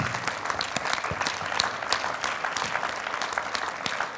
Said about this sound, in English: In Jesus' name, would you stand to your feet and clap your hands to God in praise and give him glory and honor? Amen. Hallelujah.